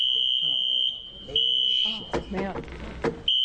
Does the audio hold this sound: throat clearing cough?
no